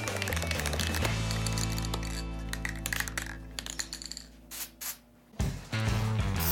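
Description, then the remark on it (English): An aerosol spray paint can, used in place of a spray gun for a customer's paint job, hisses in one long, steady burst of about four seconds, followed by a few short bursts and clicks, with a low tonal hum underneath. “I've got to admit, I was pretty scared when my dad told me I had to paint this with an aerosol can.”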